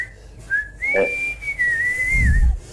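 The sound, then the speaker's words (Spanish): A single person whistles one long, clear, sustained note in the style of Silbo Gomero. The pitch bends and glides up and down, fairly loud, with a brief low thump near the end. “Déjame no, que silbe, no. Silbe Gomero.”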